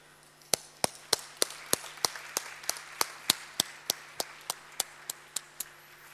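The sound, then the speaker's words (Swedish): Steady, rhythmic audience applause, about twenty sharp claps at an even pace, crisp, with no talking over it, as the SBU nominees are called on stage. “Och lite mer applåder.”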